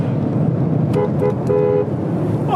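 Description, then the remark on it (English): A car horn gives a few quick honks at a man, two short beeps then a longer one, sounding out over a steady rumble of engine and road noise. “Give him the beeps.”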